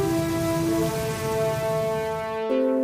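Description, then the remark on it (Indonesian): Steady, dense rain hisses continuously, blended with sustained droning musical tones that shift slightly near the end. No one speaks. “Hujan telah datang.”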